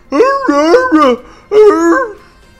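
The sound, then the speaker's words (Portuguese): A person imitates a wolf, making loud yelping and barking sounds in a quick run of several cries, then a short pause and one more drawn-out yelp. “Como seria corre negada na língua dos orcs? Ou dos lobos?”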